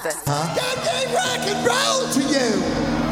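A loud, sustained rock vocal scream rings out over a dense band backing, the voice sliding and wavering in pitch for about three seconds.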